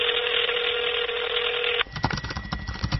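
A steady telephone tone hums over a phone line for nearly two seconds as a mother calls her daughter, then cuts off abruptly into a stretch of faint clicks and crackling line noise; there is no answer.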